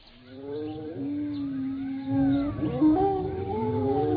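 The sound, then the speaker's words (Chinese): Several wild wolves on the hill behind howl together in long, overlapping wavering cries that rise and fall, a sustained chorus filling the whole stretch, with no talking. “果然，后面的山头上隐隐约约地站着几匹恶狼，他们的叫声十分可怕。”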